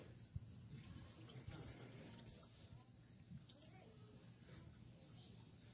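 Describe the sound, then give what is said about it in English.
A heated can, put in upside down so the ice water seals off its hole, crushes with a sudden sharp crunch as the vapor inside turns back into water, followed by steady sloshing and bubbling water, with faint voices in the background. “So I'm going to put it in upside down. Seal off that hole with the ice water.”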